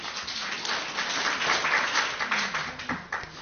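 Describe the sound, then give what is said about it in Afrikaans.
Steady applause from a group, given for a reading, a dense crackle of many hands clapping continuously at an even, moderate loudness, with a faint voice or two mixed in toward the end. “Ek dink ons kan gerus 'n bietjie applous gee vir daai voorlesing.”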